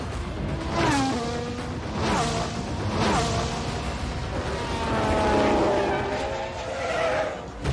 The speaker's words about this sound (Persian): اوه ماشین هاست کوبیده میشه به دیوار.